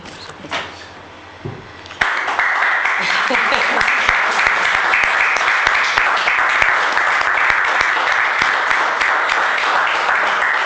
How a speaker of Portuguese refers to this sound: En este aplauso xa levantamos a sesión. Este aplauso espontáneo levantamos a sesión.